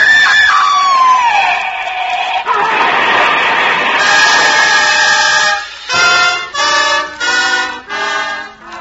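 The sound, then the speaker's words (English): A car crash of a speeding car, its speedometer at 80: a sharp screech slides downward, then a loud, harsh burst of crashing noise fills several seconds, followed by four rhythmic, pulsing blasts. No one speaks. “She'd been the lucky one in the crash.”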